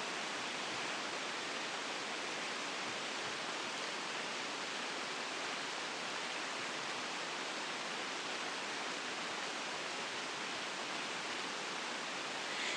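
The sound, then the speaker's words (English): Rain falls steadily on a thick tent of plasticky plastic-and-canvas material, about 12 by 12 feet with a door at either side and a built-in wooden floor: a dense, unbroken hiss-like patter at constant loudness with no pauses and no voices. “Right, I'm in my tent and it's raining, and this is what it sounds like.”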